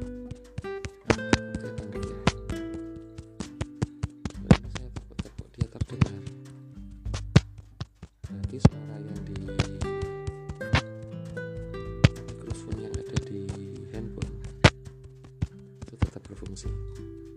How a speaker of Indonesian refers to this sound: Sekarang saya tepuk handphone.